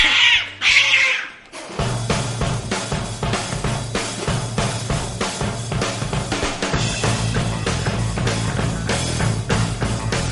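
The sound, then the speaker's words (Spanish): Two short, high kitten meows in quick succession, clear, followed by a brief pause before loud, busy music starts and continues to the end. “El gatito. Acaba de aterrizar.”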